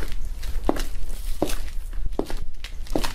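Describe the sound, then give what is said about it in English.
Four evenly spaced footsteps of a person walking back to their seat aboard a Delta flight, at a steady walking pace, each a soft thud, over a constant low background hum with no one speaking. “I need to go back to my seat anyway.”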